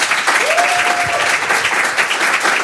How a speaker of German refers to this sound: Einen herzlichen Applaus für Julius Mittag und Jonas Samson.